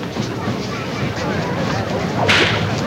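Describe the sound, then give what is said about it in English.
A single sharp, loud whip crack snaps out near the end as a man demonstrates the whip, over a steady murmur of background noise. “You seem to have got slightly mixed up with this whip of yours.”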